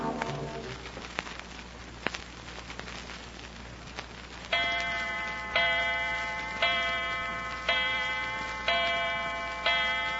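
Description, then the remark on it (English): A clock ticks steadily and softly, then chimes six times for 6 o'clock, each ringing stroke spaced about a second apart and fading before the next. No voices are heard. “Uh-oh, 6 o'clock already.”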